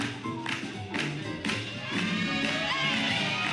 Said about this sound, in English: Yeah, that crowd cheering, you can hear me cheering. It's because she winked and I think I melted.